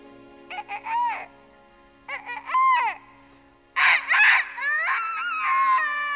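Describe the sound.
Three loud cock-a-doodle-doo crows done by a human voice, rising and falling in pitch, the last one the longest and most drawn out, with short pauses between.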